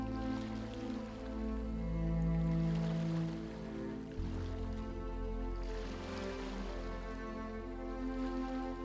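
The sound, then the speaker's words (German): Soft ocean waves wash ashore in slow, rolling swells, rising and receding about twice, beneath a steady, sustained musical drone of layered tones, used to pace breathing in a guided meditation. No one speaks. “Beginne ganz langsam deine Atmung den Wellen anzupassen. Atme mit der Welle, wenn sie kommt, ein.”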